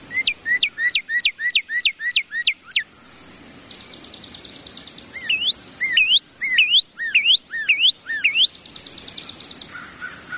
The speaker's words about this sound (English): The song of a cardinal is actually fairly simple. It's a series of whistled syllables. Usually each song is comprised of one to two, sometimes three syllable types.